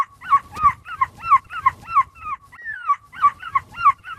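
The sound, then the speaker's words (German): A boy, the world champion in seagull imitation, imitates a seagull with a rapid run of loud, high, yelping calls, briefly broken by a drawn-out sliding wail before the quick cries resume. “Und wenn wir das jetzt mal vergleichen, was der bald 60-jährige Oliver Kalkofe an der Möwen-Imitationsfront gemacht hat, und dagegen jetzt mal zusammen”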